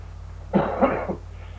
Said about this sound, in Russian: Это то, что кашляет, это … кашляет.